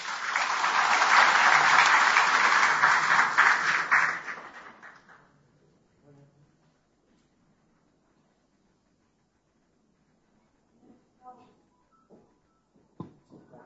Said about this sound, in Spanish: a quien recibimos también con un fuerte aplauso.